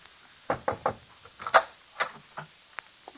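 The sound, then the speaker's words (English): A library door is handled and opened: a quick run of three wooden knocks, then scattered clicks and thumps of the latch and frame, moderately loud, with no voices. “Oh, aren't you going to open the library door?”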